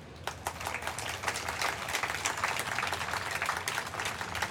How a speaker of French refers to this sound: Moi, j'habite à Tiaroy et je vous demande d'applaudir chaleureusement les tirailleurs sénégalais.